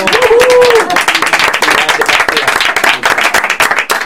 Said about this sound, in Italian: Diciamo io un applauso anche noi.